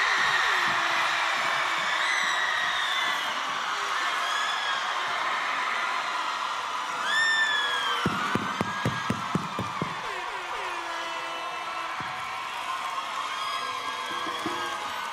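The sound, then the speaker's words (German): A crowd at the Splash festival cheers and shouts in a steady, loud roar, with high whistles rising above it and a burst of sharp, scattered claps partway through. “Splash macht Lärm”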